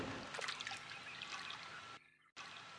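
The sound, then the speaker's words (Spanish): Soft, steady trickling water with a few light splashy bursts near the start as a fly sitting on a lotus flower falls into the water when the flower is shaken, briefly cutting out before the flow resumes. Quiet, with no voices. “La flor de loto se mueve tan fuerte con el impacto que una mosca que estaba sentada sobre ella se cae al agua.”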